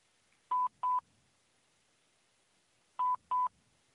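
Telephone line tones after a disconnected call: two pairs of short, steady mid-pitched beeps, the second pair arriving after a pause of about two seconds, with nothing else sounding.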